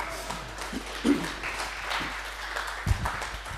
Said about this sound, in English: Please don't applaud the monkeys.